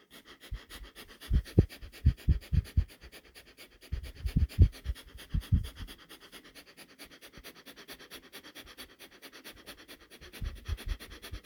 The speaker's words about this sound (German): Die Fingerspitzen zeigen Richtung Himmel, verbinden sich mit der leuchtenden Kordel und wir atmen durch die Nase ein und aus.